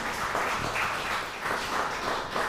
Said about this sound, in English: That's awesome. So, yeah, that's worth some applause, I think.